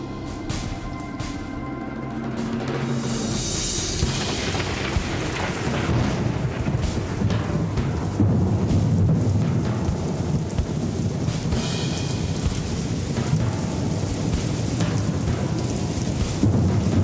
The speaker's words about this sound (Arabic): ما انت بتشوف لمحة البرق قبل ما تسمع صوت الرعد.